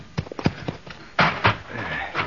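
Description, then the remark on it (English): A horse's hooves clip-clop in a quick, uneven run of sharp knocks, followed by a couple of louder, breathy bursts as the animal moves. “You catch his horse, Little Beaver.”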